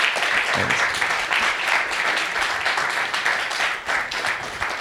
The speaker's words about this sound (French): Mais pour ouvrir ce forum, j'ai l'honneur d'accueillir sur scène Frédéric Reynal, créateur de Alone in the Dark entre autres. Merci de l'applaudir,